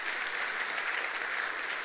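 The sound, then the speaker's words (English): An audience claps steadily, a dense, even patter of many hands that holds at a fairly strong level for about two seconds with no voices, applauding a pastor's 27th wedding anniversary. “And that's, yeah, it's worth clapping for.”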